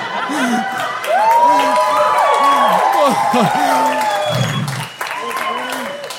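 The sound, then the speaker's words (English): A large crowd bursts into loud, sustained applause with cheers, whoops and shouting voices layered over the clapping, continuing steadily for several seconds before dipping briefly and picking back up. “And believe me, despite your applause, it feels just as awkward now as it did back then.”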